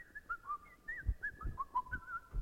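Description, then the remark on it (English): A person going down stairs whistles a short, wandering melody of quick rising and falling notes, fairly quiet, with soft low thumps underneath and no talking. “And whistling in there, I think nothing of it, see?”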